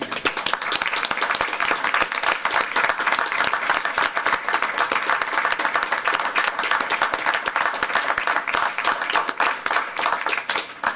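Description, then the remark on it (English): A crowd of people applauds steadily for about eleven seconds, a dense, even wash of many hands clapping at once with no talking over it, as agency staff whose names were mentioned are asked to stand up. “Anybody whose name was mentioned, please stand up and get a round of applause.”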